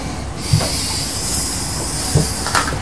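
A vacuum cleaner runs with a steady, loud whooshing drone and a thin high whine on top, broken by a few dull knocks as it bumps along the floor. No one speaks.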